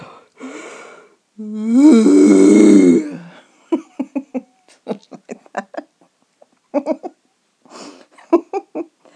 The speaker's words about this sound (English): And then the other animal decided to do is a it's a bit of a lion, a lion's roar, because I tend to make this noise when I yawn, if nobody's about. And it goes like a big yawn.